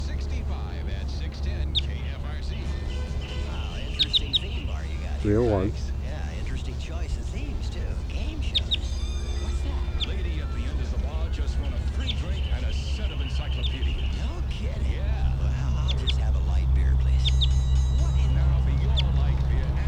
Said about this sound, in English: Wild bird, he's about 15 meters away. That's 301 on the side giving Type 2 sounding calls. Pointing out 301.